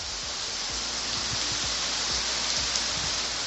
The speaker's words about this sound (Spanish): Y la protagonista de las últimas horas ha sido la lluvia.